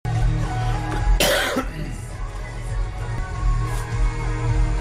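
A sharp, close cough bursts out once, followed later by a fainter second one, over a steady low background hum with no talking.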